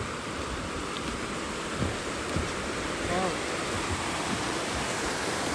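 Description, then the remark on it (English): Bright Angel Creek rushes steadily under a little silver bridge, a dense, unbroken roar of flowing water. A faint voice briefly surfaces midway beneath the constant wash. “Okay, so now we're going across the little silver bridge that crosses Bright Angel Creek to the north.”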